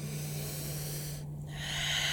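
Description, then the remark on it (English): Breathy, airy hiss of someone inhaling during a breathing practice, a brief pause, then a long, slightly louder exhale, with a steady low hum underneath and no talking. “So really just kind of starting to move and to breathe.”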